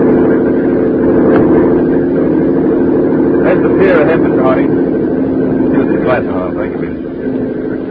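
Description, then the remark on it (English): A speedboat engine drones loudly and steadily from start to finish, its motor hum constant, with a few faint, muffled voices rising briefly over it midway. “taking the speedboat instead of a plane.”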